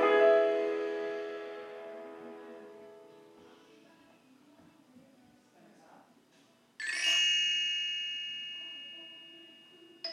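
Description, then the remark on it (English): Bamboo wind chimes ring out in two clear bursts, each chiming cluster fading slowly into quiet, with a third faint jingle starting at the very end. No voices. “bamboo wind chimes jiggling.”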